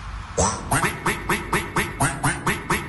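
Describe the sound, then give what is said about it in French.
A rapid series of about nine loud, nasal duck quacks repeating in a steady rhythm, clear with no talking over them. “vous envoyez des coins-coins sur le live, vous envoyez des coins-coins, puisque voici ce coin morceau coin de la team coin-coin.”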